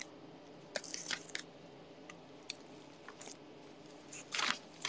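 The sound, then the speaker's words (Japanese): The crinkly plastic packaging of frozen gyoza rustles and tears open in irregular bursts of crackling, with short quiet gaps and a louder rip near the end; no one speaks. “ちょっと待って、これ開けなきゃ。え、こんなに量あんの？”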